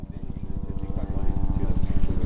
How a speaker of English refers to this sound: It's a clear, cool morning in West Texas, and about 50 people are watching a helicopter wind its way around the south side of Elephant Mountain, a brown, flat-topped summit about 250 miles southeast of El Paso.